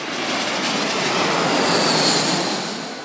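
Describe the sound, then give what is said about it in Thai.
A loud airplane fitted with a hook-like device at its tail roars past overhead as it swoops in to intercept a dropped film canister in mid-air, its broad engine rush swelling to a peak and then easing slightly as it sweeps by, with no talking. “พอมาถ่ายรูปเป็นที่เรียบร้อยเสร็จสิ้นภารกิจฟิล์มเนี้ยที่ถูกเก็บไว้ในกล่องเนี้ยก็ถูกหย่อนลงมาทิ้งลงมาตามแรงโน้มถ่วงโลกแล้วมีเครื่องบินที่มีอุปกรณ์คล้ายตะขออยู่ที่ท้ายเครื่องเนี่ยบินเข้าไปโฉบอินเตอร์เซปต์กลางอากาศ”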